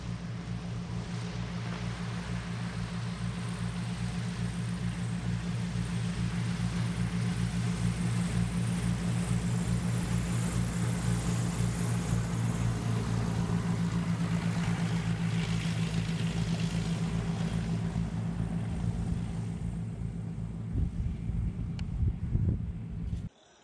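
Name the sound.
propeller airplane engine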